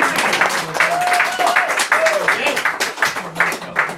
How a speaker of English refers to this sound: Big round of applause.